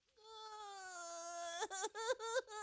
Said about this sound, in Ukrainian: Тихо, не плач, не плач, не треба плакати. Не плач, малий, я просто добрий, симпатичний лев. О, Боже. Відійди. Цей великий поганий лев налякав тебе.